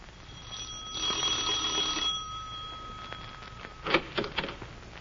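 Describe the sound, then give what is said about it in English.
A doorbell rings in the evening, just after dinner, with a steady, buzzing electric tone for about a second, followed a couple of seconds later by a few sharper, brighter rings. Fairly clear, with no voices. “Marge had gone to a picture when the doorbell rang.”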